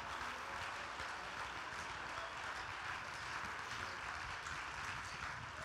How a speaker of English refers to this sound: Oh, come on, let's clap our hands and praise Him. Let's praise Him.